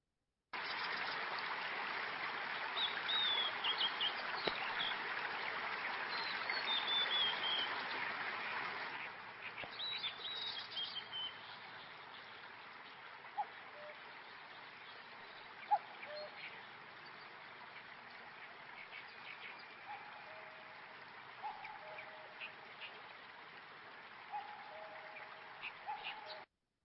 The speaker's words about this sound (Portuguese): No interior do Japão, nós temos um pequeno riacho correndo com suas cores verdes e esmeraldas, empurrando essas lindas rodas de madeira que, com sua força, então vão fazer moer grãos de arroz.